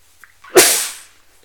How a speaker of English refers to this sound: Hang on, I gotta sneeze.